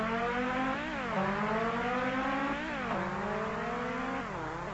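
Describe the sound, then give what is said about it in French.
A car engine in a Nigel Mansell racing video game revs loudly and steadily, its pitch climbing and then dropping sharply three times as it shifts up through the gears, with no voices. “La vitesse de la voiture est correcte, le défilement du paysage n'est pas mal, mais quoi de neuf?”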